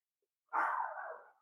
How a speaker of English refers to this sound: Both dogs are barking now, so I got to go.